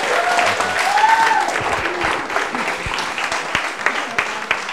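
A roomful of people applauds steadily, a dense wash of many hands clapping at close range, with a faint voice briefly rising over the clapping near the start.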